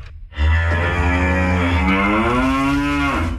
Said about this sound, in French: C'est les vaches qui sont sorties ou quoi?